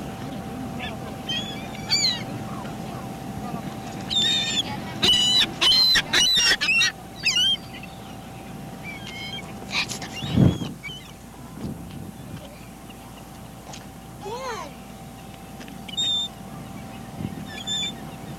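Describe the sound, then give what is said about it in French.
Seagulls cry out again and again at Cape Cod on 21 July 1983, with a dense cluster of squawking calls midway, over a steady low rumble of wind or surf and a faint constant hum. “Mouette à Cape Cod le 21 juillet 1983.”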